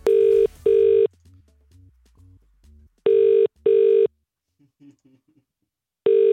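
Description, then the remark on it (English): A phone line ringing out on an outgoing call: paired electronic ring tones repeating about every three seconds, clear, with faint low background murmur in the gaps. “It's ringing now.”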